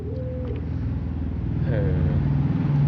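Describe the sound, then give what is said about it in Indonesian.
A motorcycle engine drones steadily, its buzzing pitch shifting as it grows louder over a few seconds, like a bike passing by. “Karena ada motor. Nah, ada motor, dia gak sering. Gini, motor lagi.”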